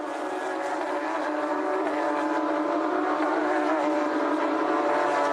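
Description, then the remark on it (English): The number 88 race car's engine roars steadily at high revs as it passes through the middle section of a circuit during a race, moving up to fourth place, a loud, continuous drone with a slight rasp that holds even throughout, no clear rise or fade, and no one talking. “That's the Juan Bo 88 car that's gone through there.”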